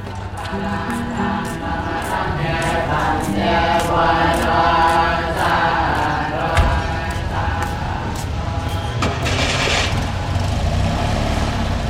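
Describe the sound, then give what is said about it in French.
A bus engine drones steadily throughout a ride from Mangkwa to Pongsali in Laos, in thick, cold, humid fog: a loud low rumble with a harmonic hum, accompanied by regular rattling clicks and knocks from the vehicle. “Bus Mangkwa Pongsali.”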